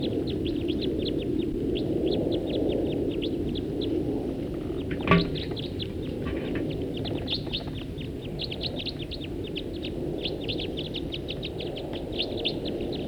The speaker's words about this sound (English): One bird took off. There go some others. Those are the ones that took off. Now back to the one that stayed. At least one stayed here.